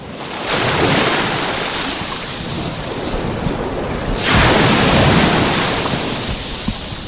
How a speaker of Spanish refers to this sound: Bueno, pues vamos a arrancar, como siempre, haciéndote escuchar el sonido del mar Mediterráneo que nos baña. Así suena hoy el agua del mar, el agua de la playa de Salobreña.